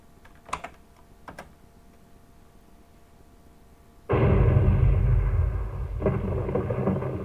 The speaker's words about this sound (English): Hear that rain?